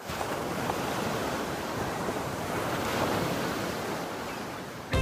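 Steady rush of ocean surf washing onto a shore, a continuous broad roar that swells slightly around the middle, with no voices and a sharp cut at the very end.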